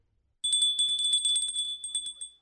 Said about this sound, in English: Suddenly, I heard the bell.